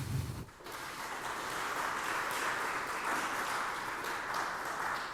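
Steady applause from an audience at the end of a talk, after a brief low thump at the start, a dense, sustained patter of many hands clapping at an even level throughout.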